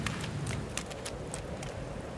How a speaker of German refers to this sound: Komm schon, wir müssen irgendwo Schutz vor dem Regen suchen.